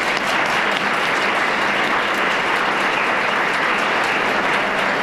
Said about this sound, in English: Thank you to the Cheyenne Mountain High School U.S. Government and Politics class for all you did to make tonight a success. Round of applause for them real quick.